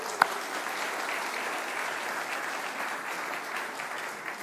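An audience applauds steadily, a dense wash of many hands clapping at an even level throughout, with one sharp louder clap near the start and no voices.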